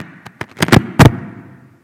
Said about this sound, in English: I think that was my car keys. It was.